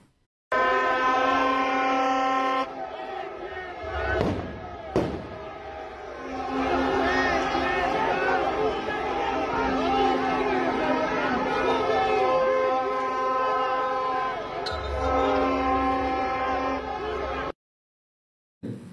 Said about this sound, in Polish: pokażmy jeszcze, jak protestujący rzucali brukiem funkcjonariuszy.